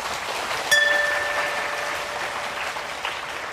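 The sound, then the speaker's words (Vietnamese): An audience breaks into sustained applause, a dense, steady clatter of many hands clapping at once with a sharp onset. It keeps an even loudness throughout, with no voices over it. “Nếu các bạn nghe theo lời khuyên của thầy đó, thì hãy cho một tràng vỗ tay để cam kết.”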